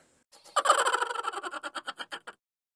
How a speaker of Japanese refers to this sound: あ、またカラスが。